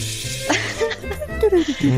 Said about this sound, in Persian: این که آیا شما همچنان مثل ما تو حموم آواز میخونی یا نه؟ اگه میخونی چی میخونی خانوم؟ بعد من صدای شرشر آب بیارم.